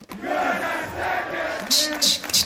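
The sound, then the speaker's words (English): A large crowd at the first Tekken 8 tournament at Combo Breaker chants in unison, repeating a rhythmic phrase in loud, drawn-out voices, with sharp bursts of cheering or clapping near the end. “But there was a crowd chant that was huge.”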